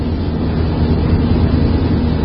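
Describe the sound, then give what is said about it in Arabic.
A car engine drones steadily without a break, a low rumble heavy in the bass with a broad, hissy wash above it. There is no speech. “هنخفي ازاي صوت السيارة؟ لابد ان يكون صوت السيارة.”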